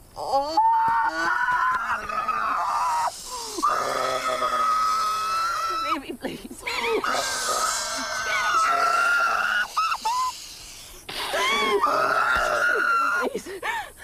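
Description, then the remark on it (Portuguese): A boy's anguished screams mixed with deep, guttural groans as a woman covers his mouth, several long strained cries in a row, loud, with brief breaks between them and no talking. “Não é um grito, é um grunhido que vem do fundo da alma.”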